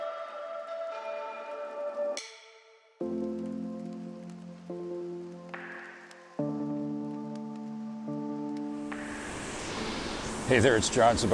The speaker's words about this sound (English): and that noise you're hearing is the beautiful sounds of the waves of the Mekay Beach here in central Vietnam. I'm in Da Nang, Vietnam on Mekay Beach, absolutely, without a doubt, one of the most beautiful beaches in all of Asia.